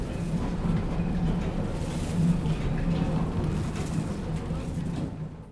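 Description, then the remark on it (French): A diesel engine drones steadily, driving a mill's machinery in place of its water turbine, with a constant low hum and broad mechanical noise that holds at an even, fairly loud level throughout. “Et donc, le même système va tourner, entraîné par un moteur diesel et pas par un moteur à eau.”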